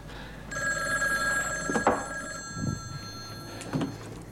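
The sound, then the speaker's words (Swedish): A telephone rings with a sustained, tonal electronic bell tone lasting several seconds, clear, with a couple of soft knocks or clicks mixed in and no one speaking. “Åh, vad bra att du ringde.”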